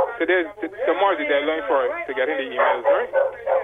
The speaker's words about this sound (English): The dog's giving you competition.